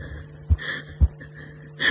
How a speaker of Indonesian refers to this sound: Aku memang takut. Aku menarik nafas beberapa kali.